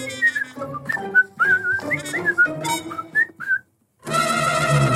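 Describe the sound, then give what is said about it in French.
Someone casually whistles a short, meandering tune while walking calmly away, note after note for a few seconds, then falls silent before a dense, noisy burst of sound takes over. “À ces mots, le loup s'éloigne tranquillement en sifflotant.”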